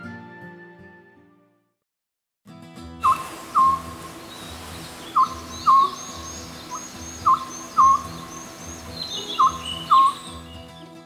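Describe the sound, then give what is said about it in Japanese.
An unusual bird, likened to the buppōsō of the mainland, calls in short, clear two-note phrases, repeating steadily about every two seconds over a low, constant background drone after a brief quiet opening. “なんじゃなんじゃ、変わった鳴き声の鳥じゃの。”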